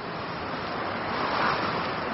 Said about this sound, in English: It's cloudy and windy.